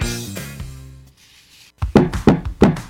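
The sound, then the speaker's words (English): After a short musical ending and a brief hush, someone from the DNR pounds on a door, about six or seven loud, heavy knocks in quick, uneven pairs. “Open up. It's the DNR. Pop, wake up. It's the DNR at the door.”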